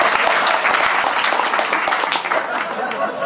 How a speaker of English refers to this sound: Congrats. Give this lady a round of applause. That's amazing.